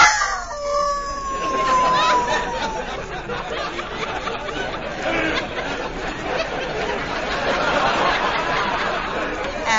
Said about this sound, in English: What was that? One of our wolves. We just got a new pack in today.